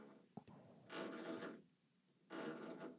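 Two short, gritty bursts of grinding drill noise into a concrete wall, each lasting about half a second with a pause between, like someone drilling tentatively and stopping quickly. No one speaks.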